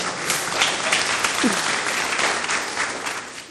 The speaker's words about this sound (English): Hey. Give him a clap.